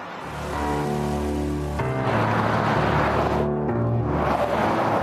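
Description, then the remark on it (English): A speeding car's engine roars with a steady droning hum, then a surge of loud road and wind noise as it rushes past, fading briefly before more traffic noise swells again. “So we heard from viewers who complained about drivers not only going fast out here, but hitting dangerous speeds.”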